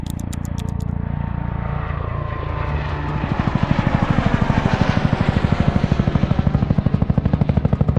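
helicopter hovering

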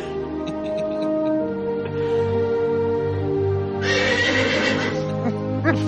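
horse neighing

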